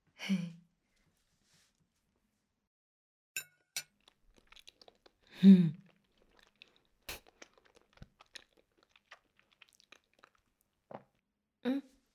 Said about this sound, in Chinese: 看着你吃饭，我好幸福呀。你多吃啊，我再给你盛一碗米饭。吃饭。啊，我也吃。